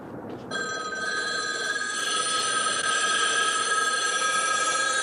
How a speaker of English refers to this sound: My favorite scene in The Omega Man is right at the very beginning when Heston, standing alone in a big intersection in downtown Los Angeles, imagines that all the payphones start ringing.